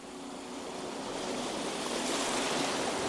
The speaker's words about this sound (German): Das Rauschen der Wellen hinter dir